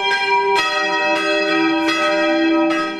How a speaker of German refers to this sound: Er weiß, wenn erst einmal die Glocken schlagen